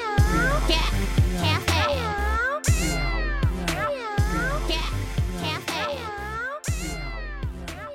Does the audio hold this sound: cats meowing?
yes